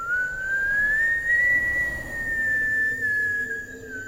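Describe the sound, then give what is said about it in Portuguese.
A single long, eerie whistle at night drifts slowly upward in pitch and then holds a thin, steady tone for several seconds over a low, murky rumble, with no one speaking. “Ouvi um assobio aterrorizante.”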